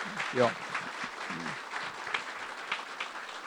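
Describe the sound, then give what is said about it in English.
A crowd at a Winter Springs commission meeting claps steadily in a dense, continuous patter of applause for Commissioners Cannon, Hale and Johnson, with a brief voice rising over it near the start. “Let me ask for one more round of applause for Commissioner Cannon, Commissioner Hale, and Commissioner Johnson.”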